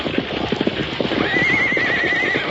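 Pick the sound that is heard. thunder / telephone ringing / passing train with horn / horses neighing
horses neighing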